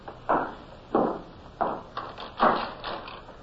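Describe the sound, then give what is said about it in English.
A door is handled and pushed shut, a run of six dull wooden thumps spaced about half a second apart, fairly loud, with no voices. “Oh, shut the door, please, Lieutenant Bush.”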